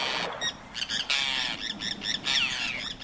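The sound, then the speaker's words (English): A Forster's tern gives a run of harsh, raspy squawking calls, several grating bursts in quick, uneven succession, fairly loud and with no voices over them. “A Forster's tern hovers with quick wing beats before diving headlong into the water to grab a silvery fish just below the surface.”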